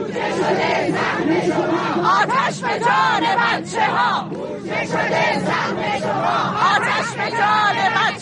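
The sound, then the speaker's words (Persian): A crowd of retired teachers protesting in Isfahan, Iran, over the deaths of four children in a recent school fire in Zahedan shouts slogans together, loud and continuous, with rhythmic chanted phrases and many overlapping voices over a steady roar of the gathering. “در گردهمایی اعتراضی فرهنگیان بازنشسته در اصفهان، بنابر تصاویر منتشر شده در سایت‌ها و شبکه‌های اجتماعی، تظاهرکنندگان در اعتراض به فاجعه مرگ 4 کودک در آتش‌سوزی اخیر مدرسه‌ای در زاهدان فریاد می‌زدند: بودجه شده سهم شما آتش به جان بچه ها.”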